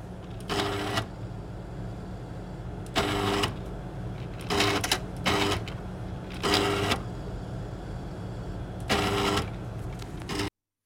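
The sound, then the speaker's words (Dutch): A gas chromatograph, an oven holding a coiled 30-metre column tube, analyses a scent. It runs with a steady low mechanical hum, punctuated by about six loud, printer-like whirring bursts at irregular intervals, clear, with no voices. “Dat gooi je dan door een gaschromatograaf, zoals dat heet.”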